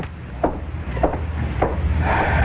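A door being opened: three evenly spaced wooden thuds, then a longer scraping, rubbing sound as it swings open, moderately loud, with no one speaking.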